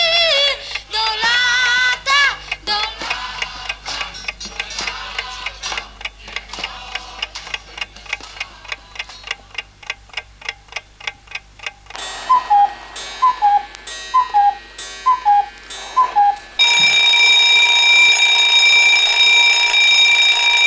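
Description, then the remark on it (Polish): A clock ticks steadily for several seconds, then a series of bright electronic chirps gives way to a loud, continuous alarm bell ringing until the end. “Czy ten twój zegarek kuka, czy dzwoni?”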